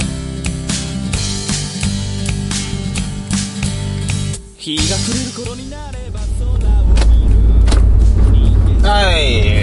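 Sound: window being opened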